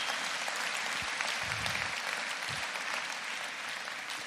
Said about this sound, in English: Give him a round of applause, okay?